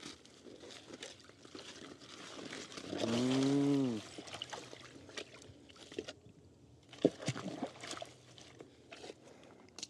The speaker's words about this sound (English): And open the gate. Ah, okay. And then the water goes through here? Yes. Into this. Whoa.